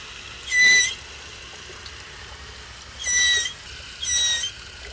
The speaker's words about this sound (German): Zumal Seekühe nicht singen wie Sirenen, sondern eher quietschen.